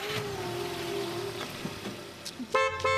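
A car engine hums and rises steadily as the car leaves a farmyard, then near the end a loud horn sounds in two quick, sharp honks.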